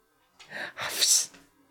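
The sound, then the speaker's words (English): A dog yawns loudly while stretching, a breathy two-part exhale rising into a squeaky, whining finish, lasting about a second with no talking over it. “Oh, that's a big yawn and a big stretch.”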